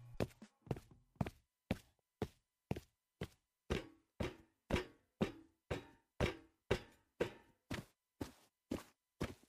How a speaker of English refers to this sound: Sounds for footsteps are also being reworked, and I know how you like me to shut up when playing new audio, so I will, and here they are.